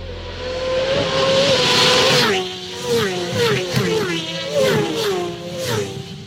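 motorcycle engine revving

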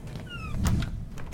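locked door being tried

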